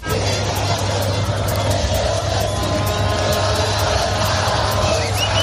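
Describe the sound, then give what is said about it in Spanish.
A dense, continuous roar of a huge street crowd in Buenos Aires, Argentina, reportedly some 4 million people celebrating the World Cup win as the champions' bus moves through, with scattered shouts and cheers over a steady low rumble of vehicles and engines, loud throughout. “Así suena Argentina ahora mismo. Se habla de 4 millones de personas celebrando el Mundial.”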